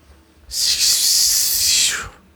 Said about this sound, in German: Du guckst dahin, du versuchst diese Worte zu formen, aber du hörst nur eine Art Zischen.